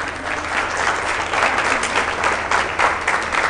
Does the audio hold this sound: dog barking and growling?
no